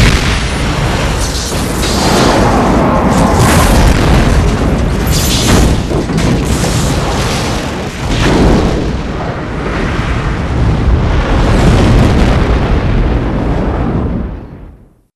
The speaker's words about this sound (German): Außenansicht. Explosion in der Mitte des Schiffes. Sie breitet sich aus, bis das ganze Schiff in hellen Flammen steht. Dabei gibt's natürlich einen irren Sound, der eigentlich wegen der Luftleere des Weltraums laut Expertenmeinung gar nicht